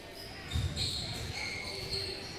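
A basketball thumps on a hard court with a heavy bounce during a game, after a missed layup by the opposing team, followed by softer low thuds, while high squeaky tones and a steady background hum fill the space.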